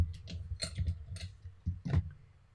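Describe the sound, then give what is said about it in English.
Small hard objects clatter and click against glass as someone rummages through a jar of dice, a series of irregular rattles and taps with a low rumble underneath. “The one bad thing about keeping dice in a jar. You have to fish them out of a jar?”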